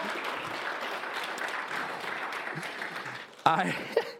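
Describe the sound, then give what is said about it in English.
An audience claps steadily, a dense, even wash of many hands lasting about three and a half seconds, before a man's voice cuts in over the fading applause. “So, you've started to clap a couple of times.”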